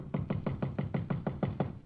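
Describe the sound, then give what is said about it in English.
Someone raps on a hotel room door at night in a quick, steady run of about nine knocks, each a dull, low thud evenly spaced, with no voices. “Then 3 years go by, and one night I am sitting in my hotel room, and I hear a knocking on my door.”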